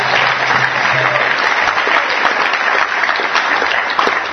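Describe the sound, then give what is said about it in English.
A crowd claps loudly and steadily for about four seconds, a dense, even wash of many hands with a faint low hum under the start. “So please give them a huge round of applause.”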